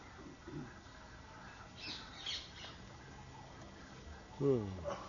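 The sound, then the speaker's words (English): A large pet bird lets out a few harsh squawks, the loudest one near the end, against a faint background hum with some shuffling in between. “That's the disadvantage of large birds.”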